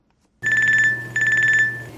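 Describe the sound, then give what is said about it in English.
After a moment of silence, a telephone rings with two loud, trilling bursts, its bright warbling tone steady, with no voices; the incoming call is placed from a battery-free cell phone developed by researchers at the University of Washington in Seattle. “Hi, I'm calling from a battery-free cell phone.”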